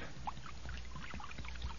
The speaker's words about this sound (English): Well, I done found a jug of acid here. Now I'm going to start pouring it now.